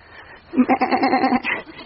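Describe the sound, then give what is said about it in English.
A goat bleats once in a long, wavering cry with a rapid tremolo, clear, followed by a brief higher-pitched tail as it trails off. “It's a goat.”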